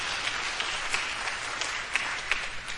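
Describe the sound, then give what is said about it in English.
A crowd claps for God, steady applause: a dense, even patter of many hands filling the space, with a few sharper claps standing out now and then. “You can clap for God.”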